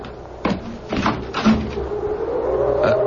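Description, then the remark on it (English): A door opens for a visitor with a few sharp clunks and rattles of the latch and frame, then a steady, drawn-out creaking whine carries on underneath. No one speaks. “Someone's at the door.”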